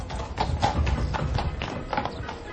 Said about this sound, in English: Ah, here comes the landau.